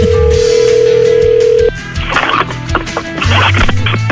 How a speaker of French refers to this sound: Et Marie-Josée en a échappé le téléphone.